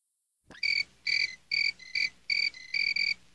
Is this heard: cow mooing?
no